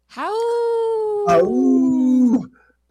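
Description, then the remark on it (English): People imitate wolves with two long, loud howls: a steady tone held for about a second, then a second lower one that slides down and fades. “I warned you we were going to howl.”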